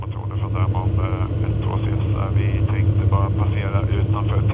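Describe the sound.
A small airplane's engine drones steadily and loudly throughout, a constant low hum heard from inside the cabin during a flight over the Baltic Sea with a Swedish flight instructor in good visibility, with muffled voices talking over it.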